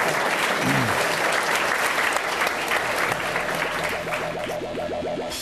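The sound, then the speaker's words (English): An audience at a Climate One conversation breaks into sustained applause for the guests after a lightning round, a dense wash of many hands clapping at steady volume throughout, with a few faint voices and whoops mixed into the crowd noise. “Let's give a round for them getting through that.”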